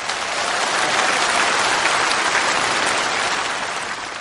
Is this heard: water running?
no